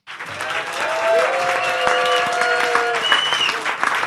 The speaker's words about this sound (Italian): Allora fate un applauso mostruoso per chi fa punk, ma non solo per loro, per tutti i punk.